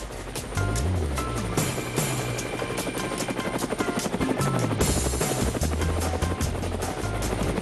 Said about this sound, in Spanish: Estamos oyendo el helicóptero